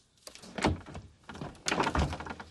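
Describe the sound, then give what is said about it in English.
A stuck door is shoved and rattled in two hard bursts, with loud thumps and clattering against the frame, with no talking. “The door's stuck?”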